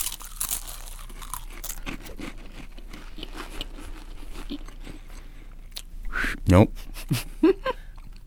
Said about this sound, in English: Now, your job is to eat the saltine, and then the first one to whistle the Olympic theme or really make any sound at all wins.